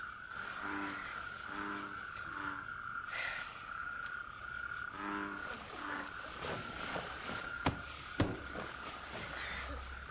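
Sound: frogs croaking at night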